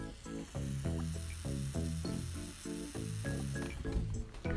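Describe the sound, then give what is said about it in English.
A steady hiss from a radiator running in a bedroom in winter runs throughout, layered over a rhythmic series of low, humming tones that pulse in short, even bursts at a moderate level. “just talking to myself in the bedroom with the cats sleeping on a chair next to me, and the sound of the cicadas has been replaced by the sound of the radiator.”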